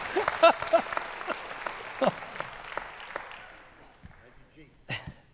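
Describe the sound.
A crowd applauds with dense, crackling clapping that fades out over several seconds, while a voice speaks over it and continues briefly after the clapping dies away.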